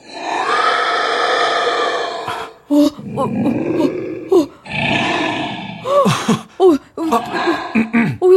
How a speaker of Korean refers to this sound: 그때 건물의 꼭대기층에서 뭔가가 크게 울부짖는 소리가 들렸다.